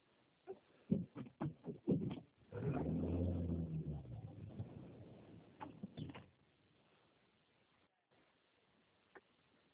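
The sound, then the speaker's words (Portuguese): A car is put away in a garage: a few sharp clunks and knocks, then a low engine rumble for several seconds, muffled, before fading to near silence. “Você espera só um minutinho que eu tô guardando o carro na garagem?”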